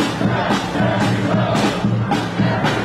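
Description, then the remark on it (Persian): A large crowd of Biden supporters in New York shouts in unison that every vote matters and all must be counted, a rhythmic chant with loud bursts roughly every half second, voices blending into a dense, steady roar throughout. “اینها طرفداران بایدن در نیویورکند. فریاد میزنند تک تک آرا مهمند و تمامشان باید شمرده شوند.”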